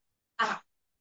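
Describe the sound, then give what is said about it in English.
A single short, breathy whoosh made by a human voice: a forceful exhale imitating a rushing mighty wind, fairly loud, lasting about a quarter second. “And then there's this sound, this rushing mighty wind, this heavy breathing.”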